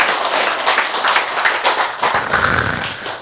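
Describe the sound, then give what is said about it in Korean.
Audience applause: a dense, steady wash of many hands clapping at once, loud and sustained for about three seconds with no one speaking over it. “박수.”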